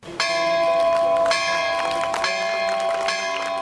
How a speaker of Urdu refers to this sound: سری نگر کے مولانا آزاد روڈ پر 120 سال پرانے کیتھولک چرچ میں 50 سال بعد نئی گھنٹی کو نصب کیا گیا تو ٹاور پر لگی نئی گھنٹی کی رسی کو عیسائی پادری کے ہمراہ مسلم، ہندو اور سکھ فرقے کے معزز شہریوں نے بھی کھینچا.